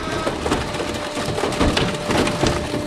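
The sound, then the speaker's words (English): A car being crushed at a scrapyard: dense, continuous grinding and crunching with sharp cracking and splintering bursts over a steady mechanical hum, loud throughout with no voices. “This car being crushed has a vehicle ID, but copper wiring rarely has distinguishing marks.”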